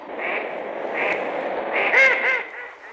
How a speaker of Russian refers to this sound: Но как раз в это время дикие утки-кряквы, засевшие в тростниках, вдруг всполошились, загомонили, шумно поднялись с воды и со свистом пронеслись прочь.